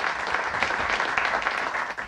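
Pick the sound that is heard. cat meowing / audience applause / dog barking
audience applause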